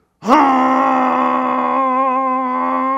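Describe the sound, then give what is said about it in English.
A voice imitates a car horn honked at a driver who cut in while driving in San Diego, with one long, loud, steady honk, a buzzy mid-pitched tone held for nearly three seconds without a break. “if we were in San Diego and somebody would cut me off, I would honk the horn. Not beep, beep.”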